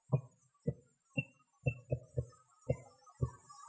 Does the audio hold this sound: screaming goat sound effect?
no